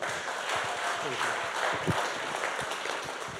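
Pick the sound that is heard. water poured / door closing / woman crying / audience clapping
audience clapping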